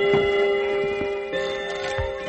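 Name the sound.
old clock ticking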